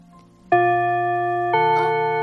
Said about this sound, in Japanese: あ、チャイムだ。 もうそんな時間か。